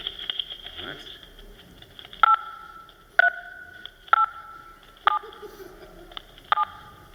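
The Tetris melody tapped out on phone keypad tones: about five sustained dual-tone beeps at an uneven, melodic pace, heard over a quiet, hissy ordinary telephone connection.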